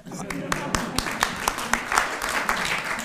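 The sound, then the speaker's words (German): An audience claps steadily, a dense patter of many hands with sharper individual claps standing out at an irregular rhythm, sustained at moderate loudness throughout. “Also gibt's Applaus erstmal?”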